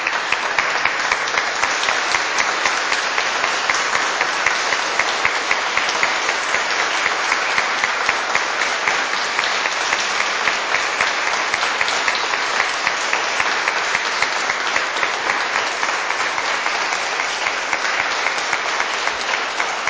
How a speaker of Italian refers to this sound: Penso che un applauso lo possiamo fare.